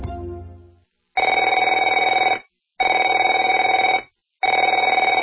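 A telephone rings in three long, loud bursts with short pauses between, a steady warbling electronic trill, following a brief fading low tone at the start.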